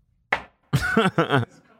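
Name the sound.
knocking on wood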